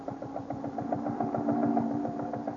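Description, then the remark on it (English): The engine of a police launch idles with a steady, rhythmic chugging, its low throbbing pulses repeating evenly over a constant mid-pitched hum, with no voices. “Deeply puzzled, Superman stands for a moment outside Jimmy's cabin door on the police launch, preparing himself to meet Mr.”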